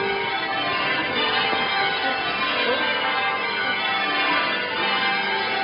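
Church bells ring for St. John the Baptist's Day, a major feast, in a continuous, overlapping peal, their tones layering into a dense, steady clangour that stays fairly loud throughout, with no voices heard.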